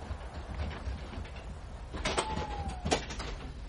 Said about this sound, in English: Same old door, anyway. It used to be a swine to open. Probably still is.